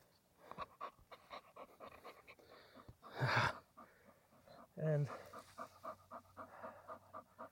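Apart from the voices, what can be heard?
dog panting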